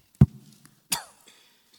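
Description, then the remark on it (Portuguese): Two sharp, dry allergic coughs about three-quarters of a second apart, with a brief raspy tail after the second and no talking around them. “Eu estou com uma tosse alérgica que me pega todo dia, final do dia, à noite.”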